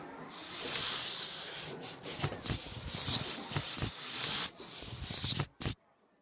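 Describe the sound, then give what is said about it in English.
Steady scratching of colored pencils moving across paper as someone draws, a dry rubbing texture with quick strokes and short breaks, ending in a brief pause and one last stroke. “And now take a piece of paper and your colored pencils.”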